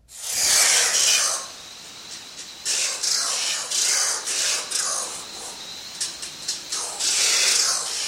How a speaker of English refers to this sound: This is the oil bird with kind of grating call. This is recorded in Trinidad, Tobago by David Snow. South American oil bird uses sound to echolocate.